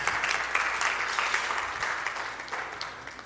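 An audience applauds in a dense, steady patter of many hands clapping, fairly loud at first and easing off slightly toward the end, with no voices over it.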